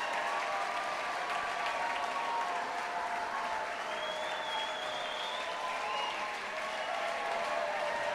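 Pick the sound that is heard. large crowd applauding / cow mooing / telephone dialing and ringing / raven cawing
large crowd applauding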